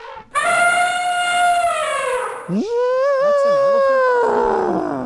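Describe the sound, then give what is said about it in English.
A loud, brassy elephant trumpet blares in two long, sustained blasts, the second rising sharply before wavering and trailing off, prominent throughout. “That's an elephant.”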